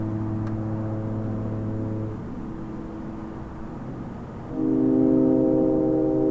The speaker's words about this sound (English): Well, that was good. That was nice and deep and resonant. You like that? Low notes. Like foghorns. There's a low note for you.